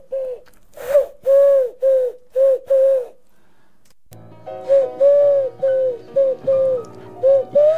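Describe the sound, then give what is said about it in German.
A person in the studio of Radio Z's show Guten Morgen Nürnberg imitates a pigeon's cooing with a string of short, hollow, rising coos, about five close together, then more repeated over a low steady background hum. “Ist hier eine Taube im Studio? Das gibt's doch nicht.”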